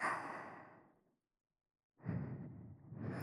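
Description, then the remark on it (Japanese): Two slow, breathy exhales are blown very close to the listener's ear: a long airy sigh that fades out, a brief silence, then another soft rushing breath. No talking. “水着の吐息を感じますか？”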